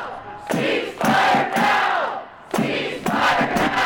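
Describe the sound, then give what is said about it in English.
Protesters chant in unison in the streets during a march lasting over two hours that held up traffic, in rhythmic bursts, loud massed voices rising and pausing roughly every half second, with shouted syllables carrying over a steady background roar. “Protesters' voices echoed through the streets.”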